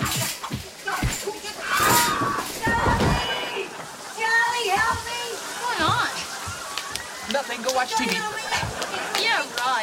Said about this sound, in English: Charlie, the shower's still running.